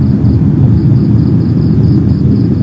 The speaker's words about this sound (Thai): เราฟังเครื่องบินและเสียงอะไรก็ตามเถอะ